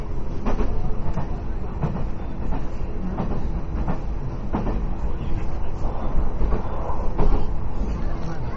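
Steady rumbling of a train interior in motion, with dense low-frequency roar and periodic faint clacks from the wheels over rail joints, continuous and fairly loud throughout.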